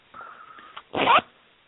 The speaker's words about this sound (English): Ooh, I heard the zipper.